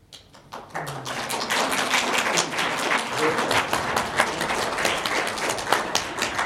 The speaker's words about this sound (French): Je ne sais pas si ce sont des partisans du slavon ou du latin qui ont applaudi